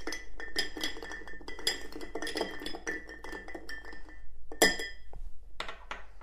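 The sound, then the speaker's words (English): A bar spoon stirs whiskey and amaretto with ice in a mixing glass to cool a Godfather cocktail, with continuous rapid clinking and rattling of ice against the glass, steady for several seconds before slowing to a few final clinks. “Then all you're gonna do is give it a nice little stir to cool it down.”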